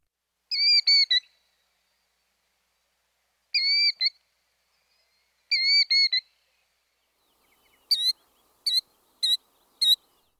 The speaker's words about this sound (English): And the killdeer, the great actor of the bird family that does this broken wing display.